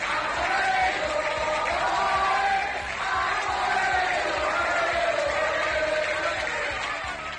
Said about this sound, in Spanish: Varias ciudades vitorean a la Guardia Civil en su salida a Cataluña.